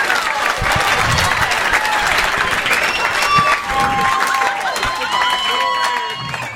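crowd, audience applause and cheering

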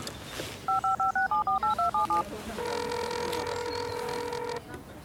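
household object, telephone being dialed

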